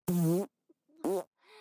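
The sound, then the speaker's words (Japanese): Two loud farts released inside a box: a long buzzing blast of about half a second, then a shorter one after a pause, followed by a faint trailing rasp. “私がおならをするたび、箱の中はおならの濃度が上がる。”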